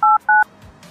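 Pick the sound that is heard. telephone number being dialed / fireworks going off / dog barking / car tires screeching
telephone number being dialed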